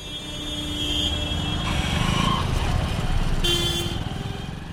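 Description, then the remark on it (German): Dense city street traffic in Dhaka, Bangladesh, with engines rumbling, motorbikes buzzing and several car horns honking in overlapping bursts, a busy, chaotic roar that stays loud throughout, with faint voices mixed in. “Die Opposition ruft zwar weiterhin zum Streik auf, aber das Verkehrschaos in Dhaka zeigt, dass zumindest in der Hauptstadt niemand mehr hinhört.”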